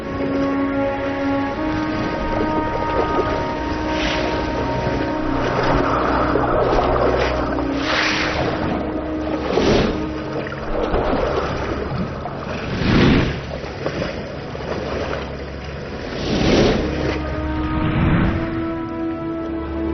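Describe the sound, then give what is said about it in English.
A steady low engine drone from a boat on the open ocean hums throughout, while rushing bursts of waves and spray surge past every few seconds, loud, with no voices. “Out here in the open ocean, there is nowhere for the baitfish to hide.”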